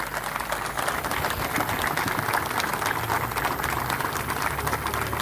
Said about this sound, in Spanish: pero sí tenemos a los hijos de los veteranos de guerra, a esta nueva generación de Malvinas, que sé que están presentes aquí al frente nuestro. Un aplauso, por favor.